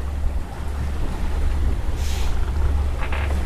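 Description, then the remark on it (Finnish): A steady low rumble of a distant passenger ferry from Tallinn, passing Harmaja lighthouse toward Helsinki, hums beneath wind and lapping water, heard from a sailboat under sail, with occasional soft splashes; no one speaks. “Ja tuolta kuuluu tuommoinen jyrisevä Tallinnan laivan ääni.”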